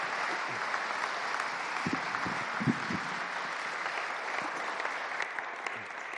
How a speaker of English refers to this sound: Do give her another round of applause. Thank you so much. Thank you. Thank you.